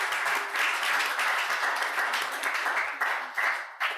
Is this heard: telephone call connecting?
no